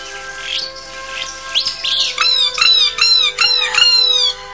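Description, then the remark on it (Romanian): A house martin chirps in a quick series of five or six bright, clear, fairly loud calls, following a few softer twitters, with no voices. “Păsărica mea dragă, lăstunelul meu drag! Degețica își înălță privirea. Era într-adevăr lăstunul.”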